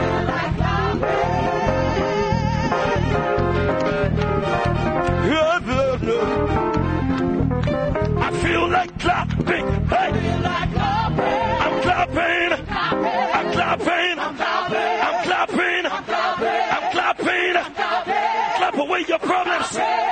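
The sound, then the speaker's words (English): A church audience shouts and cheers in praise, a loud, dense, continuous roar of many voices filling the whole stretch, punctuated by sharp individual yells and bursts. “Say, I feel like shouting.”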